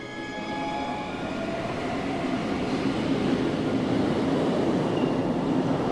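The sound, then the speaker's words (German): A train travelling from Bucharest to a town 180 kilometres to the north rolls steadily along the rails, a continuous loud rumble with faint metallic squeals and tonal whines on top, unbroken for the whole stretch, no voices. “Doch zunächst nehme ich von Bukarest aus den Zug ins 180 Kilometer nördlich gelegene Prachow.”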